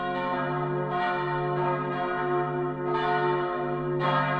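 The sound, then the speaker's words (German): A large bronze church bell from Cologne, hanging in Boßler for over 200 years, rings steadily, its deep resonant tone sustained with rich overtones, new strikes arriving every second or so over a lingering hum. Loud, with no voices. “Durch die Bronzeglocke sind wir also auf mehrfache Weise auch mit Köln verbunden.”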